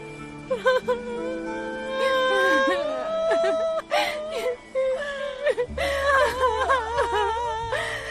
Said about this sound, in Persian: حالا چرا تو روزه به این قشنگی گریه میکنی؟ تو گریه کردی که منم گریم گرفت.